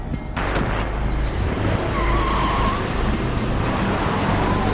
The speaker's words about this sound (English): runs out to his car and gets in. He speeds off.